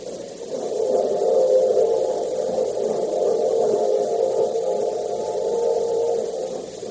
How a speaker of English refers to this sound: So now, the train is leaving the station, and Oriane isn't on it.